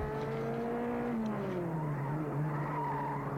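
Racing cars with tires skidding in a loud, sustained screech whose pitch slides up and down, engine noise underneath, continuous for a few seconds with no voices.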